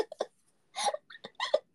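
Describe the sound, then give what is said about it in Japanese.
Several short, throaty burps come in quick, uneven bursts, fairly soft, with brief silences between them and no talking. “なんだ今の？ゲップだよね。”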